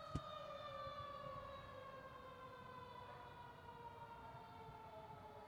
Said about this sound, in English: There go the sirens.